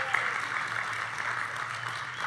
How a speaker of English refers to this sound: And we have a lovely live studio audience. If you guys want to clap and say hello. Let's hear ya.